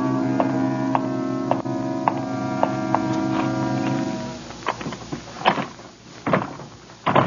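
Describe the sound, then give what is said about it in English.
A steady droning hum with faint ticks gives way to a stuck door being rattled: several irregular, fairly loud jolts and clatters, with no one speaking. “If there's anything I hate, it's a door that has to be coaxed.”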